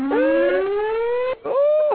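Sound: siren sound effect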